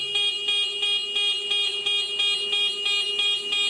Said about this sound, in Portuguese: É isso mesmo, a buzina do motoboy. E geralmente a única coisa que a nossa sociedade ouve deles.